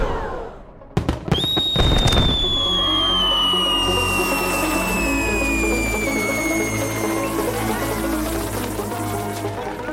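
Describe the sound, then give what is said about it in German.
A firework battery with 50 shots goes off with a few sharp bangs, then a long descending whistle over a dense, continuous crackling that keeps going loudly to the end. “Ja, und wie viel Müll wollt ihr noch so in die Luft ballern?”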